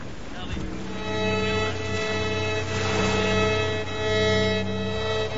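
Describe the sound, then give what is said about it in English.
A rowing boat carrying Captain Pullings pulls away across open water toward the Acheron, with a steady wash of sea and wind filling the scene and sustained tonal notes running underneath throughout. “Aubrey raises a hand in farewell as Pullings sets off over to the Acheron in a rowing boat.”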